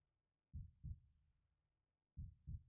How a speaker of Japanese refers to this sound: その証拠に、あんたが生きている証拠に、心地よい心臓の音も聞こえてくるわ。ドクン、